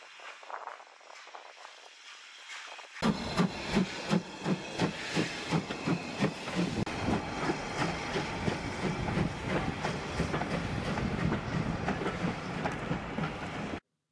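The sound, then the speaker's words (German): A steam locomotive of the Strathspey Railway pulls away from Aviemore with a burst of hissing steam, then settles into loud, rhythmic chugging that keeps a steady beat while steam hisses continuously underneath. “Es war sehr schön, ihn noch einmal bei der Ausfahrt zuzusehen, mit Fauchen und Stampfen.”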